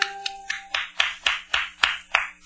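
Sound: applause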